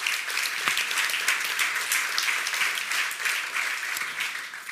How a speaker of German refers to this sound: Ein Applaus bitte für unsere Diskutantin.